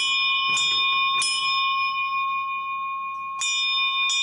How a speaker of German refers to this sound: Ein schicker Glockenturm auf dem Schulneubau rief dann ab 1926 zum Unterricht und zur Pause.